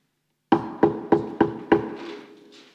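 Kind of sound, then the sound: impact, knocking on a door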